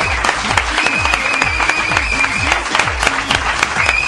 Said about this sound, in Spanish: Es que te tengo que aplaudir. ¡Bravo!